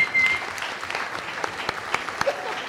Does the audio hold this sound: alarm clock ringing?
no